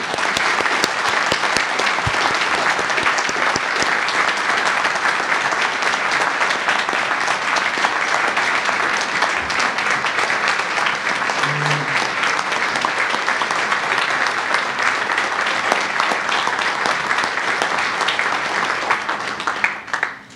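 Sustained audience applause from a sizable crowd, a dense steady wash of many hands clapping at even loudness for about twenty seconds before tapering off at the end.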